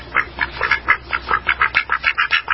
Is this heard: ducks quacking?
yes